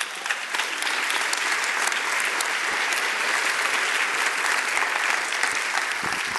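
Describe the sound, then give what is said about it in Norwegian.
Sustained audience applause, a dense, steady wash of many hands clapping at fairly high volume throughout, with no one speaking over it. “Ta i alle disse en stor applaus.”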